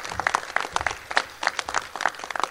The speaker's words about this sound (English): I just want to recognize two big names in Hollywood who are internationally recognized, William Fichtner and Bill Coates, and Kim Coates. Let's give them a great big round of applause.